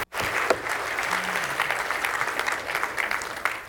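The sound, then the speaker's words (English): A crowd claps steadily and loudly for Jesus, a dense wash of many hands filling the space with sustained applause from start to finish. “Would you give Jesus one last round of applause?”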